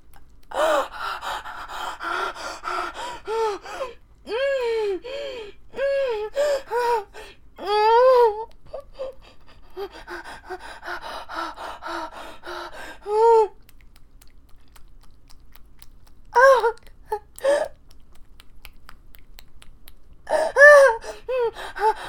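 A voice moans repeatedly in rising and falling tones, broken by stretches of heavy, breathy panting and gasps, during sex, echoing through a room. It is fairly loud, with short pauses between bursts and no speech.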